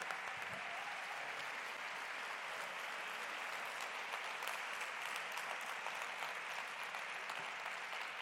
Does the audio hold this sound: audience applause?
yes